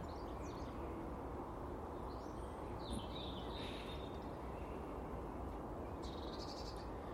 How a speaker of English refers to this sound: There's loads of birds chasing birds this morning. I say chasing, I mean trying to attract.